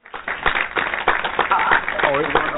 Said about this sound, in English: It's actually the hand clap is out of order, so it doesn't work. Well, you know what? Here we go. Got my own clap. And audience, if you think I'm awesome, give me a hand clap.